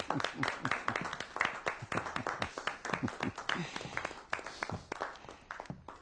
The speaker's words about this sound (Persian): پس شایسته تشویقند، اینطور نیست؟ بله، به افتخارشون.